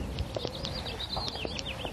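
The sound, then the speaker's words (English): Red-winged blackbirds call down in a swale in the morning, a steady scatter of high, whistled chirps and trills repeating over a soft outdoor background, with no one talking. “You can hear some red-winged blackbirds down in the swale.”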